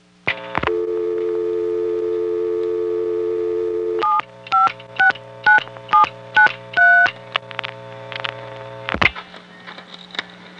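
A steady telephone dial tone hums for a few seconds, then a quick run of about ten touch-tone beeps dials the caller's own number to demonstrate ringback, ending with a click as the line drops. Clear, no talking.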